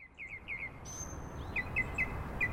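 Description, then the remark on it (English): Birds chirp in a wetland, with a quick run of short rising notes followed by evenly spaced repeated calls over a steady low background hum of outdoor ambience. “Birds love a wetland, otherwise known as a bog, a marsh, sometimes a swamp, a fen.”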